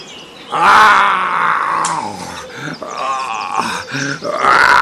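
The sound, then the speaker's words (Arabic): A lion roars loudly, a series of deep, drawn-out growling roars broken by short grunts, running for several seconds with no talking. “ذات صباح استيقظت الحيوانات على زئير الأسد ملك الغابة.”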